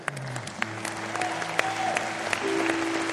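Steady audience applause at a live music performance, a dense wash of many hands clapping at an even level throughout, with a few sharper individual claps popping out and some faint tonal hum underneath.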